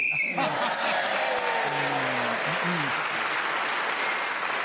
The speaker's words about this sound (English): you were saving your last flourish for the end and got the big round of applause.